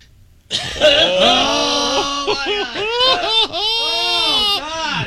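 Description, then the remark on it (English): A person voices a spoonbill call imitation: loud, strained wavering cries that swoop up and down in pitch, repeated in several arching bursts over about four seconds. “This is gonna be a bird impersonation.”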